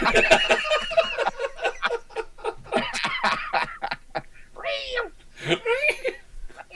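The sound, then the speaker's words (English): A string of loud meows from cats, rising and falling in pitch, with several drawn-out wavering cries and shorter bursts following one another with little pause. “Might as well join in with these cats, I guess.”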